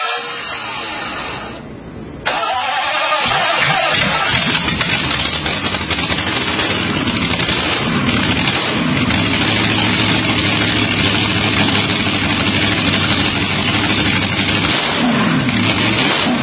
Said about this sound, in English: Ladies and gentlemen, start your engines.